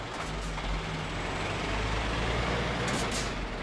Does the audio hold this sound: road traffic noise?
yes